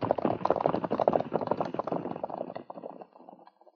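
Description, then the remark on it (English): Horses' hooves pound in a rapid, rhythmic gallop, starting loud, then steadily fading as the riders ride away, taking the horses with them. “We'll take the horses with us.”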